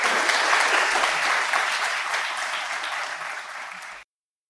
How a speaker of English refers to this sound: Let's give them a round of applause, why not?